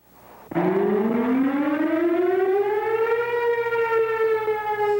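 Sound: fire siren wailing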